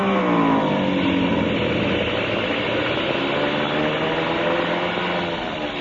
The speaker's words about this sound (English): What happened, sir? Engine been acting up. I was afraid to trust it.